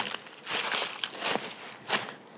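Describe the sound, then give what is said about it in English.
Boots crunching on fresh snow in a field at the end of a garden in London, in a slow walking rhythm, about three loud, gritty crunches with softer crackles between them, and no voices. “You might be able to hear my boots on the snow.”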